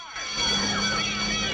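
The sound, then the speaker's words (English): A car engine strains and revs as Bonnie and Clyde's getaway car is bumped back and forth to get out of its parking place on a busy street, with a busy wash of startled townsfolk and shouting in the background. “Moss bumps the car back and forth to get out.”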